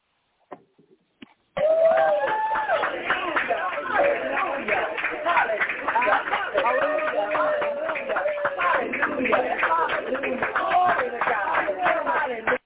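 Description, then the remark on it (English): A church crowd claps and cheers steadily for about eleven seconds after a brief faint start, following couples' session on words of affirmation, with dense overlapping claps under a loud wash of shouting, whooping voices. “We got the cheering section here with us.”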